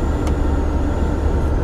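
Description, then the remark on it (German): A thin, steady high-pitched whistle from the ventilation of an old VW Bulli van named Luna, over 20 years old, runs unbroken over a loud, constant low engine and road rumble as it drives with the windows rolled down on a sunny day, with no talking. “Die Lüftung im Bulli pfeift.”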